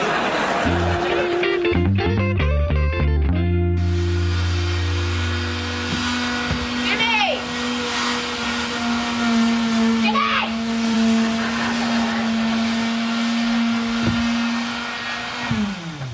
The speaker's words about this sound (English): I'm almost done sanding.